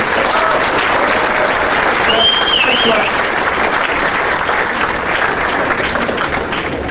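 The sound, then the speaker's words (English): An audience at a talk applauds the arriving speaker steadily for several seconds, a dense, loud wash of clapping hands that holds an even level throughout, with a faint whistle rising briefly above it. “So let's give a round of applause for zooming in just for us.”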